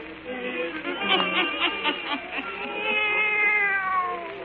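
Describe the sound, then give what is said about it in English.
A black cat meows in a long, wavering series of drawn-out yowls that rise and fall in pitch, fairly loud, filling the whole moment with no talking. “let us join old Nancy and Satan, her wise black cat”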